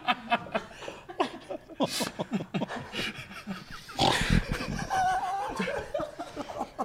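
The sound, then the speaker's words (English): A person makes a run of loud pig-like snorts mixed with laughter, followed by a broader burst of laughing noise and a few more snorting grunts toward the end. “Don't snort”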